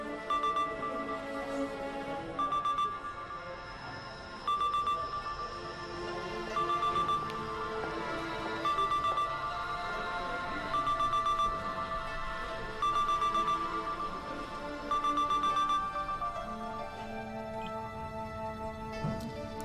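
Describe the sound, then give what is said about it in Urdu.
A telephone rings over and over in steady, evenly spaced bursts of a bright electronic tone for nearly twenty seconds, clear, with nobody picking up and no voices. “نہیں کٹ گیا ہوگا, بعض مرتبہ انسان جواب دینا چاہتا ہے تو ایک دم فون کٹ جاتا ہے شاید.”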